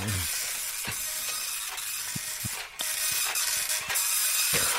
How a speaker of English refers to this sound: It's an old dot matrix sort of thing. I've got to wait for it to print the scores out.